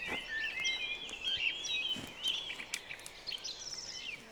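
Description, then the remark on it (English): A dawn chorus: many birds sing and chirp at once, overlapping high warbling phrases and quick tweets layered over a soft, steady outdoor hiss, fairly faint. “The dawn chorus is full of DNA melodies and the acoustic territories of birds.”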